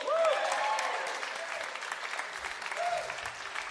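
An audience claps for the person running the PowerPoint, in a dense, sustained round of applause that holds fairly level throughout, with a few brief tonal whoops or whistles rising above the clapping.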